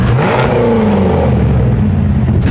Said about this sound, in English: See, anyway, I just wanted to hear that, like, little rev.